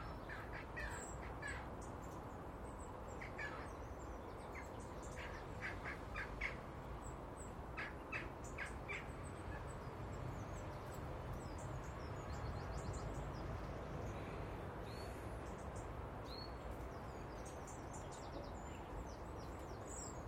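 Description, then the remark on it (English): A crow calls repeatedly in the morning in short, harsh caws, some in quick clusters, over a steady bed of outdoor background noise with no talking. “Although, having said that, it sounds more like a crow than a jackdaw.”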